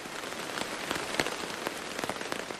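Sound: heavy rain falling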